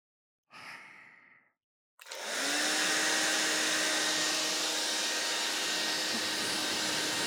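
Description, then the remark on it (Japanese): A soft breathy exhale, then after a short pause a hair dryer switches on and blows steadily on someone's hair to dry it, loud, its whooshing air and motor hum continuing unbroken to the end. “ドライヤー、当てさせてもらいます。”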